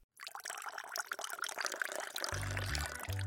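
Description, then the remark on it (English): Mint tea pours steadily from a teapot into a cup, a continuous splashing stream that deepens into a fuller, lower gurgle toward the end as the cup fills. “Add the sugar and allow it to sit for a few minutes, then pour.”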